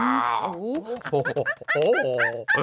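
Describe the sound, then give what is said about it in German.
People imitate monkey noises, their voices rising and falling in quick, excited hoots and squeals, several calls tumbling over one another in a burst lasting a few seconds. “Wir müssen ein bisschen Affengeräusche machen.”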